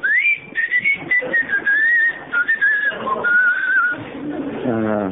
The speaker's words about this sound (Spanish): Cuando ven que viene alguno, sí, me chiflan.